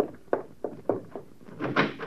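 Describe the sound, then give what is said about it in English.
A door being opened to answer it, heard as a quick series of clunks and knocks from the latch and handle, followed by a brief rattling swing, with no voices. “Now answer the door.”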